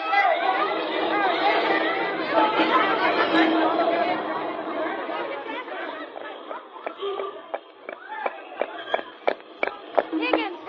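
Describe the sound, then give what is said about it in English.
A loud crowd of many voices, apparently chasing somebody, clamors and shouts together, then thins out as a series of sharp, irregular taps like hurried footsteps rings out near the end. “The crowd seems to be chasing somebody.”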